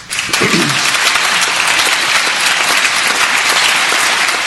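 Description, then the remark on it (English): Most of the people in an assembly applaud steadily, a dense wash of many hands clapping that holds at an even, loud level throughout, with a brief low murmur of a voice near the start. “And most of the people in the assembly are clapping.”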